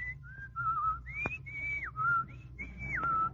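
A person whistles a short tune, the pure tone stepping up and down through several sustained notes with quick slides between them, alone and fairly loud over a low background hum.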